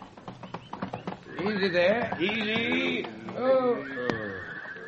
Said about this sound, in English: To begin, we must go back to the year 1842 and come at eventide upon a small encampment where men are busy picketing their horses under a flaming sky, and the great rolling land seems to reach out forever.